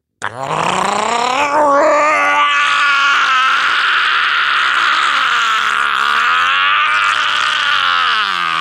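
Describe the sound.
A human voice imitates a roar, blowing out all the breath in the lungs: one long, loud, throaty bellow lasting about eight seconds, rising sharply in pitch at the start, then holding a strained, raspy tone until it cuts off.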